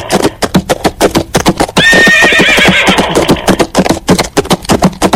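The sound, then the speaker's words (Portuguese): A horse lets out a loud, drawn-out whinny lasting about a second, set against a steady, rapid clatter of hooves that continues from start to finish. “Se assustou e saiu arrastando esse homem, que morreu logo após, depois de vários metros, sendo arrastado pelo próprio cavalo, hein?”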